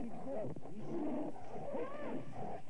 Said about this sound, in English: Tiger's coming for us. Get out of there.